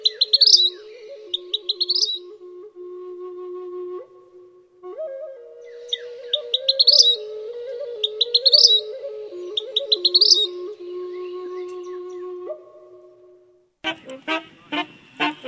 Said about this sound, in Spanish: Su trinar es muy melódico. La siringa está adaptada para formular melodías sencillas que pueden ser copiadas por otros animales como lo es el sensontle.